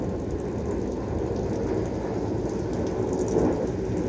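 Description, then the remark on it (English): A large airplane rumbles overhead in a steady, deep roar that fills the whole stretch, swelling slightly toward the end. No one speaks. “Oh, wow, that's a big airplane.”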